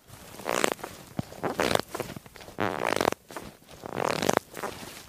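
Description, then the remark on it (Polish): Footsteps squelch on soft, wet, water-saturated forest litter with no snow cover, water squeezing out underfoot. A steady series of wet, squishy crunches with soft rustling between steps. No one speaks. “Stąpamy po wilgotnej, przesyconej wodą ściole.”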